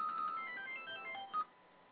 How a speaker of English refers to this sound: Got the gayest ringtone ever.